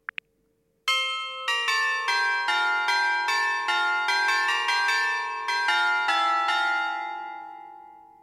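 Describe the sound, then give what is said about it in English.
A bright electronic chime tune of ringing bell tones plays a quick festive Deck the Halls melody, a Christmas doorbell tune played on smart speakers throughout a house when the doorbell is pressed, each note ringing into the next for several seconds before fading. A couple of short clicks precede it. “So in my case, our house, when someone comes round and they press the bell, on all the smart speakers all over the house, you get this.”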